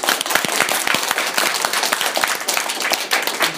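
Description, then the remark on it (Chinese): An audience applauds as the doctor giving the talk takes a short break, many hands clapping in a dense, continuous patter with sharp individual claps poking through, holding a fairly even loudness throughout with no voices over it. “大家也喝点茶，对不对啊？吃点点心，先鼓鼓掌。”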